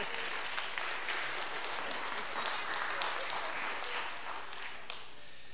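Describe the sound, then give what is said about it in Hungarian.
An audience applauds a newly baptized child presented to them as a new Christian: steady, dense clapping from many hands that holds for several seconds, then begins to thin out near the end. “Mutassuk őt meg a többieknek. Ő az új keresztény. Meg is tapsolhatjuk.”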